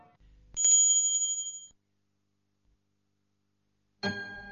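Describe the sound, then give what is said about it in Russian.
A small bell rings once with a bright, clear tone that sustains and fades over about a second, followed by silence and then a burst of other noise at the end. “Вдруг послышался звук колокольчика, и светлый луч скользнул по стене.”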